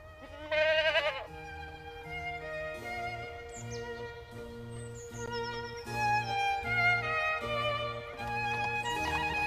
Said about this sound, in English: And don't forget about the goat.